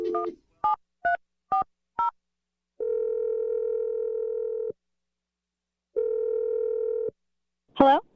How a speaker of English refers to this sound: I'm going to dial Tiffany's number and let you make your awkward Tuesday phone call.